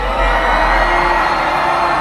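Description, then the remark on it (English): A crowd yells and screams in a dense, continuous, loud roar, with overlapping shouts and whoops blending into a steady wall of noise. “You hear all that yelling and screaming?”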